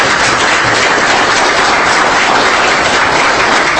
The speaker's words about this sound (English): So I think we could give him a round of applause.